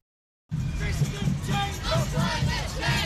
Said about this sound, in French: La longue marche de Londres a mobilisé une foule immense qui a bruyamment défilé à travers la capitale jusque devant le Parlement de Westminster.